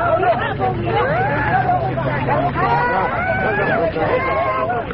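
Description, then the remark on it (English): A dense hubbub of many overlapping voices, steady, as a crowd of refugee women and children fleeing the fighting in Chechnya unloads from a bus just past the first roadblock inside Ingushetia, with a low idling engine hum beneath for the first few seconds. “Just past the first roadblock inside Ingushetia, a bus unloads a cargo of women and children fleeing the fighting.”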